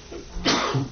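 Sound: sneeze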